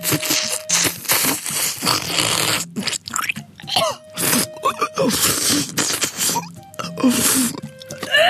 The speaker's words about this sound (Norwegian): Men jeg måtte jo lage min mukbang for deg, og skal du bli stor innen dette, så må du lage lyd når du seibiff I tomatsaus. Jeg prøver å slurpe det I meg, sånn synes koreanerne gjør.